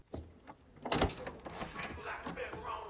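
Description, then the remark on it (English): Outside a computer room, a couple of dull knocks on a door, then the clunk and rattle of it being opened, followed by faint shuffling and scraping with a low murmur underneath. “Outside the computer room, he knocks on the door, opens it, and finds Reggie sitting at a screen.”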